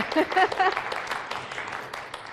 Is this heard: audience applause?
yes